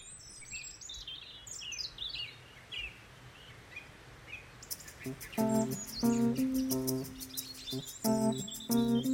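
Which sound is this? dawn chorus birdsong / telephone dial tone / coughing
dawn chorus birdsong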